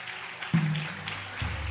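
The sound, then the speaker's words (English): An audience claps in a steady, dense patter throughout, while a low droning hum cuts in about halfway and deepens near the end. “Clap for her.”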